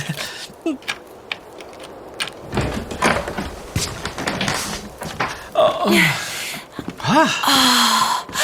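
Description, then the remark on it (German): A key clicks and rattles in a lock, followed by a cottage door creaking open with a drawn-out squeaky hinge, fairly loud, with some shuffling around it. “Lass uns mal reingehen, ehe wir von der Tür festfrieren. Wo ist denn nur der Schlüssel? Ah, hier. Endlich gefunden.”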